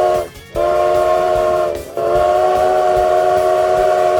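A loud train steam whistle sounds in three long, sustained blasts separated by two brief breaks, over a low rumbling background, with no talking.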